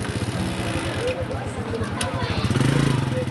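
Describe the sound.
A small Chinese-made motorcycle taxi engine idles and revs in the market town of Kailaun, its steady rapid putter thickening toward the end, with voices murmuring in the background.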